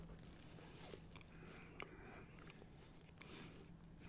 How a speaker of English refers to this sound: Keep talking. I'm chewing. Bigger bite.